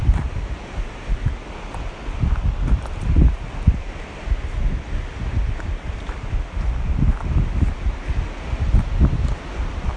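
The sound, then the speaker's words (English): Wind gusts coming from the mountain roar through mountain treetops, changing direction, a steady rushing hiss with leaves rustling and low buffeting thumps rising and falling in uneven surges, no voices. “You can sort of hear it coming from the mountain, and then it's never quite clear whether it's going to whip round you at your own level or stick to the treetops.”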